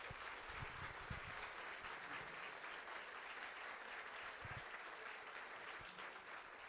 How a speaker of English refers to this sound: How about one last round of applause for our contributors today?